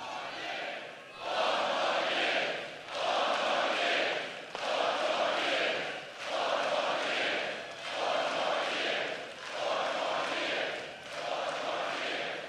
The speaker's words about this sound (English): The crowd was also chanting, "Four more years."